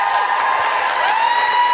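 A steady wash of audience applause, dense and continuous, with bright whistle-like cheers rising over it and no one speaking.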